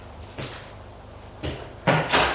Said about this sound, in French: La bonne ressort. Puis, ouvre la porte.